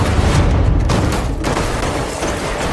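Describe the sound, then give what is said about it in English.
A loud, sustained burst of explosive noise from a cannon charge firing during a car roll stunt, with dense rumbling and crackling energy that stays heavy throughout and slowly settles. No voices are heard. “I was given the opportunity to do a cannon roll.”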